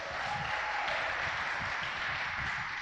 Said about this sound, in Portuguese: Esse é o tipo de gente que merece umas palmadas, né? Palmadas, palmadas, palmas.